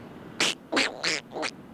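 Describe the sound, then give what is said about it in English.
A voice imitates Donald Duck talk in four quick, raspy, buzzy bursts, fairly loud, with brief gaps between them and no clear words. “Say, that's a good one in Donald Duck talk.”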